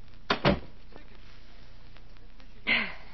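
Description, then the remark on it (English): A door is pulled shut with two quick, solid knocks as it latches. A softer rustling shuffle follows a couple of seconds later amid otherwise quiet. “Close the door, will you, please?”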